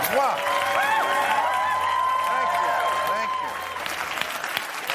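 Loud, sustained applause from a large audience fills the whole clip, a dense wash of clapping with a few whistles and cheers mixed in, easing slightly toward the end.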